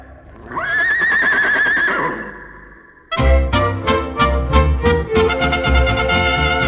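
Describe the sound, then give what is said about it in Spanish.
A loud horse whinny rises and wavers for about two seconds, then stops abruptly. After a brief silence, lively rhythmic music with strong beats and strummed instruments takes over. “Todo menos mi caballo, mi mujer y mi pistola.”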